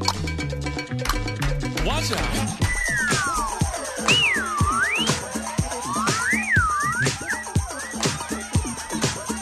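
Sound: train whistle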